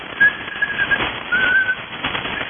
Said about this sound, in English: Let me give a whistle.